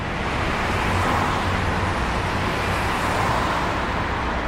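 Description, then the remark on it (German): Steady, dense roar of cars rushing along Via Cavour, a busy street in Rome, a continuous wash of engine and tire noise at moderate loudness with no pauses or voices. “Draußen auf der Via Cavour rasen derweil die Autos entlang.”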